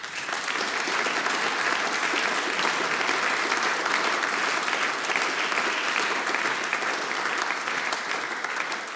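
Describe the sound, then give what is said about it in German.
Steady, dense audience applause for two singers who had just performed music and song, with many hands clapping at once, sustained at an even, fairly loud level for the full nine seconds without a break or any talking. “Großen Applaus für ihr und meine Schwester.”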